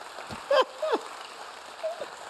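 Audience clapping makes a soft, steady patter throughout, with a few short voiced shouts or whoops rising briefly above it.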